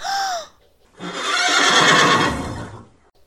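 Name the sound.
horse neighing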